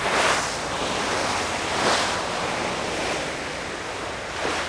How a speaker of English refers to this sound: Here's what sailing into the Southern Ocean sounds like, by the way.